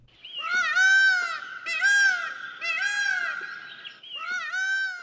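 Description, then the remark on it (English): A male Indian peafowl (peacock) gives a series of loud, piercing, nasal wailing calls, four long harmonic cries in quick succession with brief gaps between them. “Enter the peacock. You'll easily recognize these magnificent birds on sight. But are you familiar with their song?”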